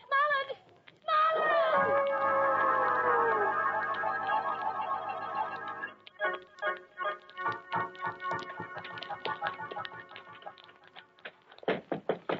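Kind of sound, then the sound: household object, knocking on a door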